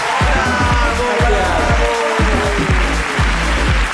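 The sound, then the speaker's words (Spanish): A crowd applauds loudly and steadily for several seconds, with cheering voices mixed into the clapping and a regular series of deep thumps beneath the noise. “¡Aplauso para la ruina”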